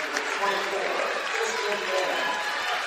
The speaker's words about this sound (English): Senior starters here for the Trojans get to check out and get a round of applause here for their final time here on the floor.